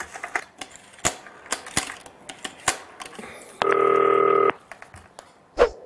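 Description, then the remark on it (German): Dialing on a green telephone: a run of sharp, irregular key clicks, then a steady electronic tone for about a second, and one last click. Fairly loud, with no talking. “Ich ruf den jetzt mal an. Grünes Telefon.”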